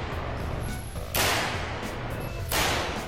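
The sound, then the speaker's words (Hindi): Two loud, sharp bursts of film special-effect gunfire, shown by a special-effects company in north-west London, about a second and a half apart, each with a short ringing tail, set against a steady background rumble and no talking. “आपने फिल्मों में गाड़ियों को धमाके से तबाह होते, लोगों को गोलियां लगकर जख्मी होते, मैदान जंग में नकली फॉग पैदा होते तो देखा होगा।”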